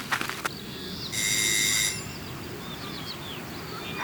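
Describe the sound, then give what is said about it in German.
A doorbell sounds once with a steady, bright buzzing tone lasting under a second, preceded by a few sharp clicks. Faint bird chirps follow in the quiet afterward. “Klingeln wir und warten, ob einer kommt.”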